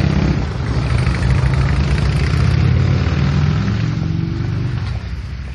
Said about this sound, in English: Woo, thunder in the Rockies. I don't know, it's two motorcycles taking off.